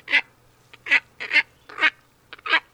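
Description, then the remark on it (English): A heron-sized wading bird with a big, long, down-curved bill and glossy, iridescent plumage gives a quick series of harsh, nasal, honking grunts, about six clipped bursts in an uneven rhythm, clear with no one talking. “it's a heron-sized bird, and it's got a big, long, down-curved bill”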